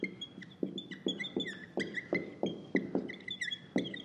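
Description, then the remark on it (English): A marker squeaks across a whiteboard in quick, repeated strokes, with short high-pitched chirps and light taps falling in an uneven rhythm, moderately quiet, with no talking. “I know you love the squeaking marker.”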